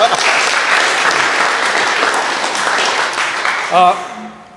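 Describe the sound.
A church audience applauds a church member steadily for about four seconds, a dense even wash of clapping that fades out as a man's voice briefly comes in near the end.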